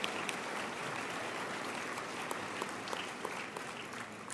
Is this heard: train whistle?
no